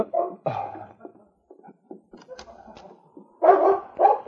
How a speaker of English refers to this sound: About half an hour later, Sergeant Preston was aroused into consciousness by the sound of the great dog King barking and scratching at the door.